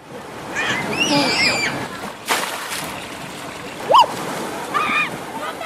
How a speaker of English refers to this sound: Children careening down gushing slides into pools of fresh water. This is Water World, a fun park